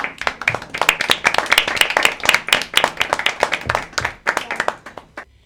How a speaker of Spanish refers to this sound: ¡Aplausos!